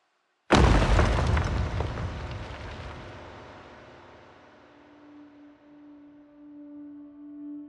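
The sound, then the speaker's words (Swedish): A massive boulder falls onto hard ground with a single deep, loud boom, its low rumble slowly fading over several seconds with a faint lingering hum beneath. No voices. “Ett stort stenblock föll ner i det hårda underlaget och gav ifrån sig ett högt dån.”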